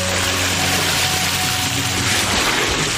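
A steady, loud rush of water from a water cannon aimed at a fire roars continuously for the whole stretch, with a low mechanical hum underneath.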